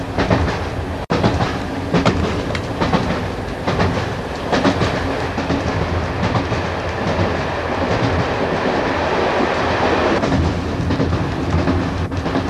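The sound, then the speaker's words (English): A train rolls steadily along the rails with a loud, continuous rumble and a repeating clickety-clack of wheels over track joints, with no voices. “Also on the same train”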